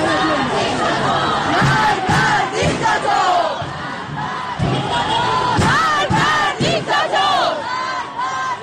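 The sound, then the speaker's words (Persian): A large crowd at a street protest in Tehran, Iran, chants loudly in unison, many voices rising and falling together in repeated shouted phrases with a steady rhythmic pattern, dense and continuous throughout. “در تهران نیز تجمع‌های اعتراضی در شهرک غرب، شهرک سپهر، قلهک، گیشا، بلوار فردوس، سعادت آباد، نارمک و خیابان‌های ابوذر و شریعتی و ولیعصر برگزار شد.”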